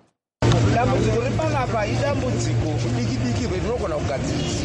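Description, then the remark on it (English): Busy outdoor ambience at the 4th Street bus terminus in Harare: a dense babble of many overlapping voices over a steady, low idling engine rumble, loud and continuous after a brief silence at the start. “who works at the 4th Street bus terminus in Harare, also urged the council to intensify its refuse collection efforts at the station.”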